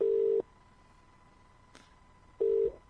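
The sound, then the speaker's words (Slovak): A ringback tone from an outgoing call to a man's phone that goes unanswered: two steady electronic tones about two seconds apart, each lasting under half a second, with a faint click in the quiet gap between them. “No, tak nám nevezme telefón, možno nám zavolá.”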